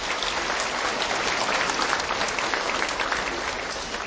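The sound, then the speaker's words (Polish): Steady applause from an audience at the sanctuary in Tuchów, thanking the Redemptorist fathers and brothers who serve there; a dense wash of many hands clapping at an even, fairly loud level for several seconds, tapering slightly at the end with no voices. “Brawa dla nich!”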